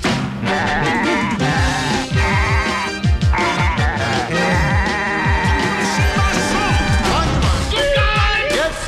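Goats bleat loudly and repeatedly, many overlapping wavering cries packed close together over a busy, continuous musical backing that runs the whole way through.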